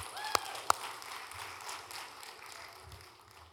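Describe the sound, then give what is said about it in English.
A crowd at a worship service applauding together in a hand clap of praise, a dense wash of many hands clapping, with two sharp claps standing out near the start before the applause gradually tapers off. “a hand clap of praise.”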